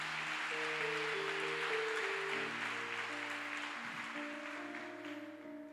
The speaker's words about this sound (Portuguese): Dá mais uma salva de palmas a ele.